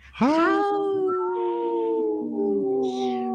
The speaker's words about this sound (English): It's a cat just howled.